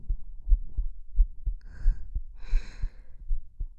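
heartbeat

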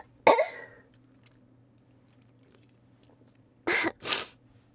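sneezing

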